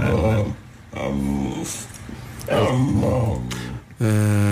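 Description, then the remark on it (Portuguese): A dog makes drawn-out, voice-like whining vocalizations in several bursts, its pitch bending so the sounds resemble a person saying "mama." Fairly loud, with a short growly rasp between calls. “Não é claríssimo que é um cão a chamar a mãe?”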